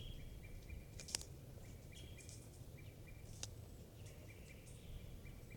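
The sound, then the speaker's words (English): Outdoor ambience with several faint, high-pitched wild bird calls repeating in short bursts from the trees, a couple of sharper clicks, over a steady low rumble of wind or background noise. “Recording the wild birds are tooping in the trees.”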